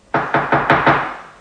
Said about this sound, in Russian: Я очнулась, когда раздался стук в дверь нашей квартиры.